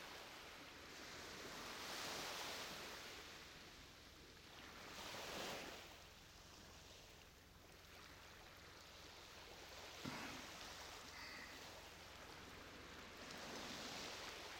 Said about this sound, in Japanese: 気持ちいい音するよね。そう、波の音落ち着くよね。体内音と似てるんだってね、海の音って。